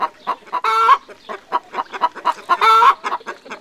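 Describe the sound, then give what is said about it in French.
A hen's excited cackle after laying an egg, loud: a rapid run of short clucks broken twice by a long, drawn-out squawk, with no talking. “Et celle-ci caquette. En voilà une qui a pondu un œuf.”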